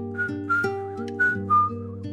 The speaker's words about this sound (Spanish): Se escucha un leve silbido